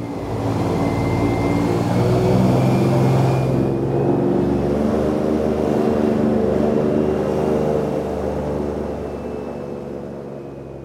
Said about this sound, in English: The fanboat engine revs up and we glide out across the sawgrass.